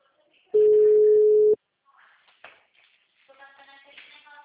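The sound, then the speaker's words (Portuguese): A phone call reaches voicemail: one loud, steady mid-pitched beep lasts about a second, then faint, muffled speech follows. “O telefone dela só dá caixa”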